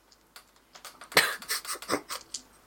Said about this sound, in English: Yes, dice. they're hidden on my thing. Total of 6.